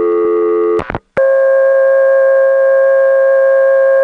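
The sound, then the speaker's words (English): A loud, steady telephone off-hook warning tone from a phone left off the hook, which would stay on indefinitely: a buzzy chord of stacked pitches that breaks off with a few sharp clicks, then resumes as an unbroken, slightly different tone with no voices. “This tone would stay on indefinitely.”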